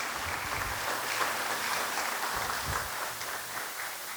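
audience applauding

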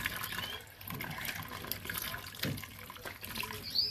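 water running

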